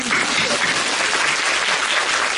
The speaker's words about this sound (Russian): Поэтому мужчинам, которые сегодня пришли сюда, наши аплодисменты.